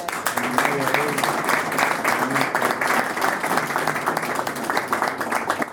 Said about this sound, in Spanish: Pido un fuerte aplauso.